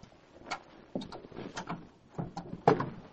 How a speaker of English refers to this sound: Andrew Blake drew a leather key case from his pocket as he neared his car. He unlocked and opened the car door.